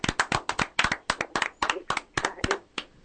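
A capacity crowd of about 3,000 people claps together in a quick, fairly steady rhythm, each sharp loud clap standing out on its own, with no voices over it.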